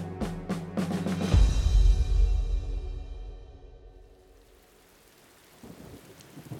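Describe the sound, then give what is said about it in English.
Steady rain hisses throughout while a deep roll of thunder booms early on, then fades into a softer patter of rainfall with no voices present. A day of alternating rain and sunshine on 2 July 1644, on the open, wind-swept Marston Moor west of York. “July the 2nd, 1644, is a day of alternating rain and sunshine.”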